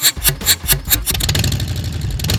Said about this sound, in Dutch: Hij kan ook weer uit. De Harley. Ja, de Harley Davidson.